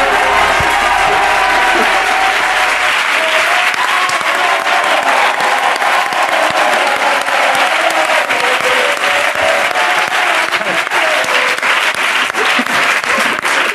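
Loud, steady applause from a crowd fills the whole stretch, dense rapid clapping with scattered cheers and whoops rising above it, continuous without a break.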